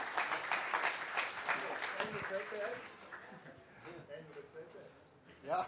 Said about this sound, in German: Applaus, meine Damen und Herren, für 5 Jahre auf 1, dass wir mit Ihnen hier gebührend feiern dürfen.